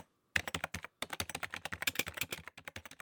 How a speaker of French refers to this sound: Je dois de nouveau écrire des rapports. Non, pas avec une vieille machine à écrire. Bien sûr, avec le clavier d'un ordinateur.